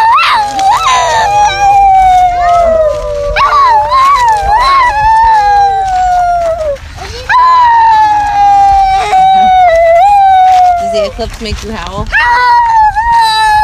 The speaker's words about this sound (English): Oh my gosh, the eclipse is making the kids start to howl. Yep.